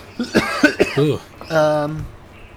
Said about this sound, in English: Did I cough directly into the mic? I don't know if it was directly mic.